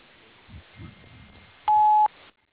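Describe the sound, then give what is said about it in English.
A single steady electronic beep tone, loud and clean, lasting under half a second after some faint low murmuring: a voicemail tone after the greeting, signalling the start of message recording. “Please leave your name, number, a brief message, phone or tone, and I'll call you as soon as I'm available.”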